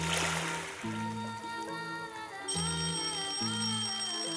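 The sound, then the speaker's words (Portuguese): A school bell rings out a steady, repeating melodic chime of clear tones, fairly loud, with a bright, ringing shimmer that lingers between notes and no voices, calling the children in. “Este é o sino da escola, chamando as crianças que vêm entrando.”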